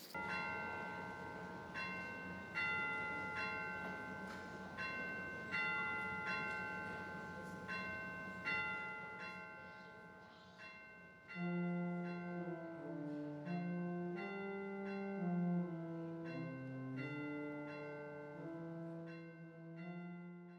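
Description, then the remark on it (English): A church bell, rung during a church service to call the audience back together, rings with steady, repeated strikes, each bright tone hanging and overlapping the next, then gives way to a run of shifting pitched notes. No voices are heard. “But for now, let us continue in a spirit of worship as we stand and as we greet one another, and I'll call us back together with a ringing of our bell.”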